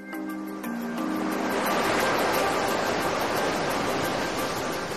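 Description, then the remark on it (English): Sea waves crash against a rocky shore with a rising, steady roar that swells after the first second and holds loud, while faint sustained musical tones fade out at the start. “That feeling when you walk a rugged coastal path and hear the waves crashing against the rocks or gently rippling on the sandy beach.”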